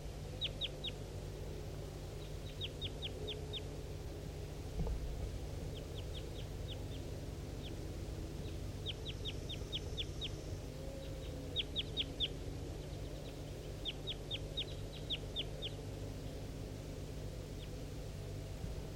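wild bird calling

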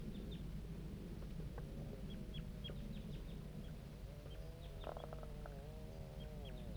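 juvenile birds calling

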